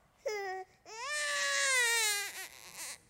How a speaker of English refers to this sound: A distant cry, piercing the night. The cry of an infant who has just been born.